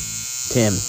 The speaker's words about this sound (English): If you're going to be using the vibrator to communicate, at least pick a spot where I'm not talking.